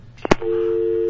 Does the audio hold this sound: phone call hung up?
yes